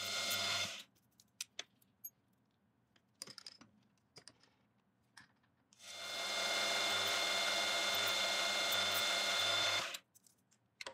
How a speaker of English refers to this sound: And while I got the handles in the vise, I'll drill the holes for the handle pins.